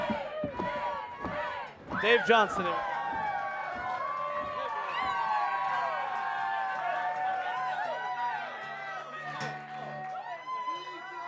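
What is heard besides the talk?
audience stomping their feet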